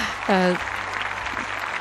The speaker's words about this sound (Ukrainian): Ну, цих аплодисментів насправді достойні всі. І ті, хто створювали програми, ті, хто підтримували звучання Світлого Радіо.